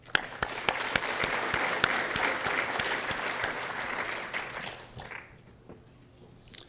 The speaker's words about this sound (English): And the board sets the direction for Usenix overall, so we'd like to give them a round of applause.